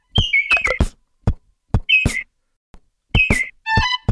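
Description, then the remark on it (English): A lesser vasa parrot of the Madagascar rainforest gives loud, abrupt whistled calls in short bursts separated by pauses, each with a sharp clicking onset, closing on a longer, wavering multi-toned note. No talking. “The next one is the lesser Vassa parrot.”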